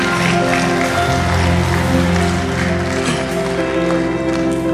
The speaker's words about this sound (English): Let's clap to God for that. Amen. 好吧，我们为着神把这个内在生命之道给我们，我们来向他鼓掌。